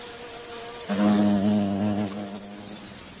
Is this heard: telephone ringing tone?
no